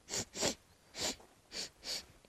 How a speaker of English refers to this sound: And he looks around, and he sees a wolverine just sniffing its way out.